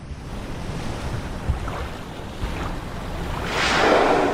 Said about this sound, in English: The humpback whale, like the spray, the breath that you hear. And that's how you'll know. You know, you might be standing on a beach and you might hear it, or on a boat, and it's like you can whip your head around and see the spray.